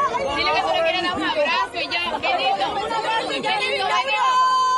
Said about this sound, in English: That's her screaming, taking the selfie. And then this gasp.